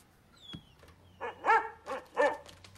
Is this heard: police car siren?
no